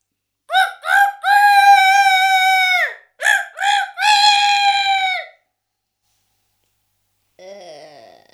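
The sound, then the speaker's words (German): A voice imitates a rooster crowing twice in a row, each call two short notes followed by a long drawn-out high tone, loud. A faint, brief sound follows after a pause. “Frühmorgens schreit der Hahn.”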